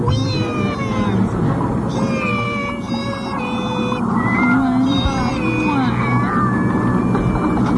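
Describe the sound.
A loud, dense chorus of cats meowing and caterwauling, many wavering yowls overlapping continuously from start to finish, with no pauses and no speech.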